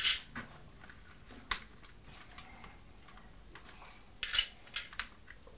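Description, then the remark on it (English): Small metallic clinks and jangles come in scattered bursts as coins are shaken inside a small metal tin that once held mints. The rattling is fairly quiet, with short pauses between the rattles. “This is a little tin that Grandma had some mints in.”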